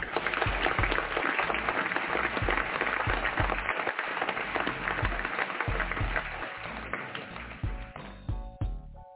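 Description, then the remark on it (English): A crowd claps steadily for about nine seconds, a dense patter of many hands at an even level that gradually thins and softens toward the end, with no voices. “See, we gave you the claps.”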